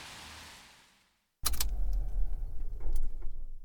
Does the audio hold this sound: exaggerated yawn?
no